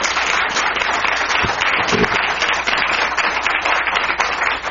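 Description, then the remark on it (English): Sustained applause from a crowd at a UMAA forum for the region candidates, a dense steady wash of many hands clapping at an even loudness for the whole stretch, with no voices standing out. “Let's have a round of applause for all of the region candidates.”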